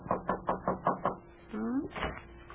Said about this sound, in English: And right now, there's a knock on the back door, and it's Shuffle who pokes his head in. Listen.